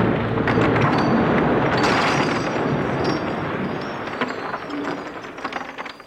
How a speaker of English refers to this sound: Oh, he's knocked down the railings. Hey, that bulldozer's coming across the road.